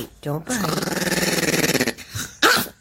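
A dog named Eddie gives a long, rattling growl lasting over a second, its rapid pulsing throaty and steady, framed by a short whine before and a couple of brief grumbles after.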